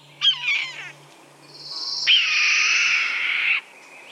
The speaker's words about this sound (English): Sounds almost angry there. And you can hear that hoarseness That's the scream of the red-tailed hawk.